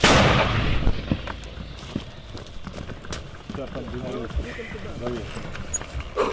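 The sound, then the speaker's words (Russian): A Ukrainian army mortar crew fires old 82mm mortar rounds at light vehicles north of Kherson: a loud, sharp boom at the very start, followed by a few fainter cracking thumps as men talk outdoors in the background. “Старі міни не підводять, ні? Хлопці працюють 82-м калібром, вони працювали по легкій техніці, зараз будуть працювати по важкій вже техніці, по БТРам, БМП, там є розвідка, дала цілі.”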